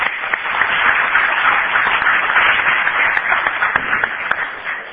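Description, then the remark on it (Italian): Sustained applause from a large crowd following a speech at a gathering, a dense, steady wash of clapping with scattered sharper claps, holding at an even loudness throughout without fading. “Ha fatto una prima pausa per farsi entrare il primo applauso, poi l'ha ripetuto”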